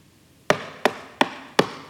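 Four firm knocks on a wooden door, evenly spaced at a steady, slightly quickening pace, each a sharp hollow thud with a short ringing decay, heard alone with no voices.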